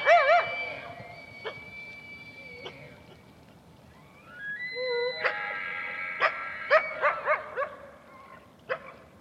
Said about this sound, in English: They sort of turned around, but as soon as that happened, 30 yards over our back shoulder, we could hear all of a sudden a coyote start barking.